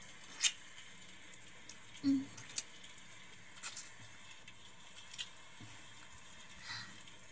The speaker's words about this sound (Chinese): 你听，外面的雨声好大呀，是不是刚好能盖住你等会忍不住的声音呀？